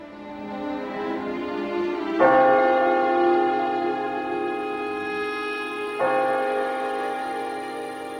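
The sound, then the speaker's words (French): Church bells ring with a rich, sustained hum, two fresh strikes landing a few seconds apart and each swelling before slowly fading. The tolling is moderately loud, with no voices. “Le fleuve, les cloches, si loin qu'ils se souviennent, dans les lointains du temps, à quelque heure de sa vie que ce soit, toujours les voix profondes et familières chantent.”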